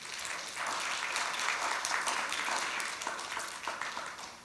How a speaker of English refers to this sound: Would you give yourselves a round of applause?